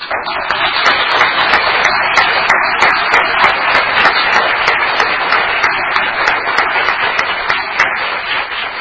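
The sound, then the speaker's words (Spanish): Sustained audience applause at an event, for the women who organized it, a dense wash of many hands clapping at a steady loud level throughout, with no voices standing out above it. “No para mí, de verdad, para ellas les pido un aplauso por organizar este acto con tanto amor.”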